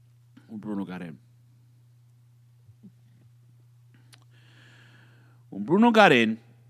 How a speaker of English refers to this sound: Excuse me, as I belched into the microphone, I don't care.